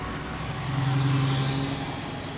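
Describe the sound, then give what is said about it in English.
Steady city street traffic with a broad rushing roar; a vehicle's engine hums louder as it passes by midway, then the noise settles back to a constant wash. “Okay, but I'm not sure that Ed Glazer would like to smell or celebrate this traffic here.”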